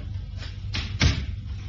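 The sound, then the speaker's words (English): A door opens with two quick clunks, a latch click and then a heavier knock as it swings, over a low steady rumble. “The door was easy enough to open.”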